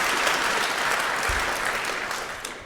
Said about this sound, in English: First, let's give a round of applause for the heralds and the angels for putting up with all this and generally keeping things moving smoothly. So thank you very much.